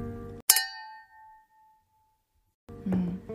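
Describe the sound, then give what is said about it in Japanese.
A single bright clink of a glass of Fever-Tree elderflower tonic water with ice and garden rosemary, raised in a solo toast; its ringing tone fades over about a second, set between soft handling noises before and after. “それに、ちょっと氷を入れて、ローズマリーを庭から摘んできたので、それで、はい、ちょっと進めていきたいと思います。よろしくお願いします。一人ですけど乾杯。”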